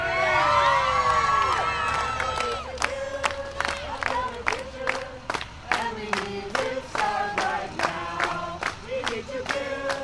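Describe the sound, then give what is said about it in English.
A crowd of about 100 local activists cheers and whoops loudly as a procession of about 50 climate marchers arrives at a park, with dense overlapping shouts and sharp claps punctuating the noise in a steady, excited rhythm. “The procession of about 50 climate marchers melts into the crowd of 100 or so local activists.”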